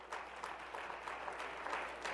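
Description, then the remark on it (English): A church audience claps steadily as a clap offering during a sermon, many hands blending into a dense, even wash of applause that holds at a constant level throughout, with no voices rising above it. “I'll give him a clap offering.”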